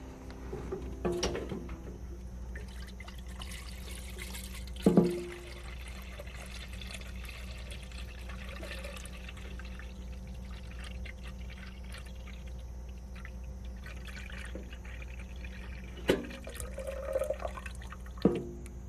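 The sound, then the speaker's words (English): In a kitchen, a faucet runs in a steady stream for nearly twenty seconds, filling a pitcher, with a few sharp clinks and knocks at the start and near the end. No one speaks. “First of all, I need some water in this pitcher.”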